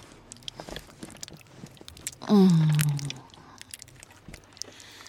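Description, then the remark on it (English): Quiet crackling and small pops scattered irregularly throughout, joints crunching during a massage as a knot in the back is loosened, with a louder drawn-out creaking groan rising briefly in the middle. “That is all this week's stress popping and grinding and crunching out of you.”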